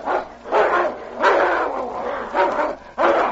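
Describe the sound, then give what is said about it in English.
Two animals growl and snarl while fighting in the snow, with harsh, rough outbursts coming in four or five loud surges over a few seconds, and no talking. “Suddenly, the growling stopped.”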